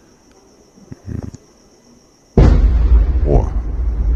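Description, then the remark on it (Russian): A sudden, powerful explosion from a missile strike bursts in after a brief exclamation, then deep rumbling rolls on to the end, over a faint, steady high-pitched chirring like crickets. “Вот. Удары.”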